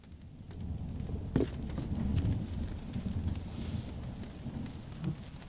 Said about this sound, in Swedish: Det har börjat regna.